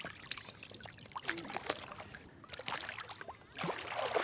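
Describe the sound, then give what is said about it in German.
Water sloshes and splashes, with bubbly gurgles and trickling, as a person goes underwater and makes swimming movements beneath the surface. The sound is continuous and fairly loud with brief quieter gaps. “Tina ist unter Wasser und...”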